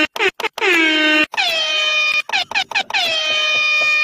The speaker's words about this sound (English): Those are just sirens